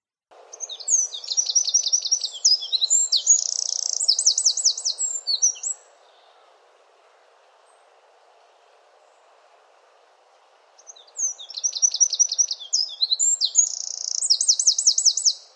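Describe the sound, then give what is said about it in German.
Eurasian wren song: two loud, rapid bursts of high, metallic trills and sharp notes, each lasting about five seconds, separated by a pause with faint background hiss. “Aber wie hört sich jetzt der Zaunkönig-Gesang wirklich an?”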